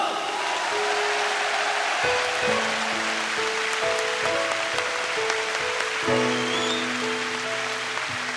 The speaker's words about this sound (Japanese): まずはこの山、そしてこの山に住む人たちに盛大な拍手を。